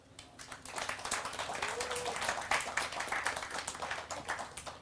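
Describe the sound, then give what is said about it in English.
An audience at the Plank stage of CCC Camp 2019 applauds steadily throughout to welcome two speakers, a dense wash of many hands clapping at once that holds at a fairly even, moderate loudness from start to finish. “So I want you to give a warm applause and warm welcome”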